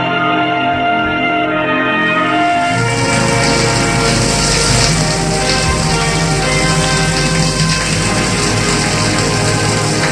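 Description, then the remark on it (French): A man takes a shower in a bathroom: steady, loud hiss of spraying water that swells after the first couple of seconds, with a low humming drone underneath. No one speaks. “Il a mal un peu de partout sur le corps, prend sa douche.”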